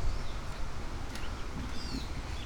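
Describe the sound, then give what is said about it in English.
Several birds squawk, scream and cry out, a few thin, wavering cries rising over a steady low outdoor rumble, with no one speaking. “Lots of birds making weird noises. Squawk, scream, squirp, cry out.”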